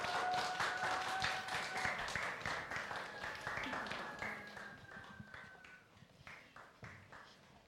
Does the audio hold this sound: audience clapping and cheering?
yes